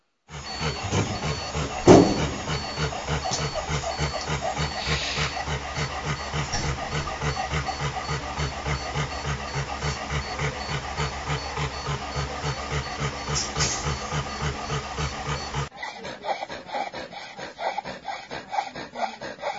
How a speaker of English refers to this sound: That's a breathing sound called stridor, first of all. It's a sort of a grating noise, a harsh noise that you can hear with changes in flows of air